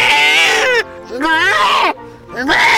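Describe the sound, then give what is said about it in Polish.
A goat bleats loudly three times in a row, each cry a wavering, nasal, quavering call with short pauses between, the last one cut off. “ponieważ pogoda zaprasza do spacerowania po górach, a dla tych, którzy się odważą, to jeszcze raz przypomnimy, jak zachowuje się koza terrorystka.”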